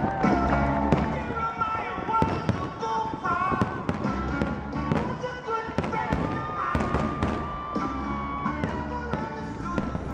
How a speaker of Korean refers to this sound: 네, 이게 무슨 소리인지 아시죠? 네, 뭐 뻥뻥 터지는 소리가 들리는데 독립기념일 불꽃놀이 소리 아니겠어요? 맞습니다. 네. 작년 7월 4일 이곳 워싱턴 DC 안에서 진행됐던 독립기념일 불꽃 행사 가운데 일부를 들으신 건데요.